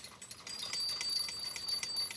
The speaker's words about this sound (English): So I'm shaking the rimonim, so that you can hear the tinkling of the bells, to give you a sense of what it might have been like to hear the high priest who was walking in the temple 2,000 years ago.